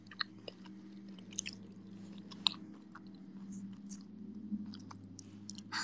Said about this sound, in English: Sorry, I'm eating cookies.